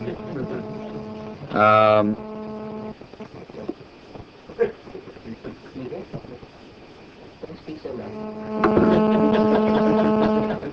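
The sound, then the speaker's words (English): Buzzy, droning snores over a line hum: a short wavering burst, a pause with faint background noise, then a longer, louder, steady rasping snore at the end. “I think it was snoring.”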